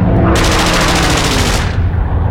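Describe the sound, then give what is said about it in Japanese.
Rapid machine-gun fire from attacking aircraft: a dense, crackling burst of shots over a loud, rumbling engine roar, lasting over a second before the firing stops and the heavy drone continues. “石はこちらを向き、急速な爆音と一緒に不意に何かを引き剥がすような激しい連続音が聞こえた。”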